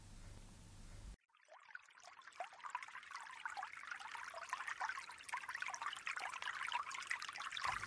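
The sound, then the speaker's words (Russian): Water trickles and burbles steadily, with a bright splashing texture that swells slightly over several seconds, heard alone after a brief low hum at the start. “Струящиеся воды.”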